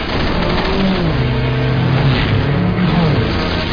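A car engine revs hard and accelerates as it drives head-on at another vehicle in a game of chicken, its pitch rising and falling in sweeping tonal bands over a steady loud roar, with no pause in the noise.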